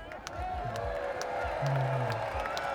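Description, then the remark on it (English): A live concert crowd cheers with scattered clapping and a few whoops, forming a steady wall of noise with loud voices rising through it. “So, guys, this is the crowd.”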